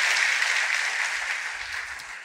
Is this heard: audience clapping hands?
yes